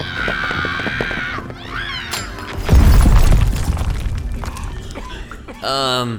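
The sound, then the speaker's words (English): A sudden loud burst, a mini energy explosion caused by a Solar Diamond thrown at Space Pirates, erupts midway with a crackling, shattering tail that fades out. Excited voices shout before it, and high cries follow at the end. “We'll cause a mini energy explosion.”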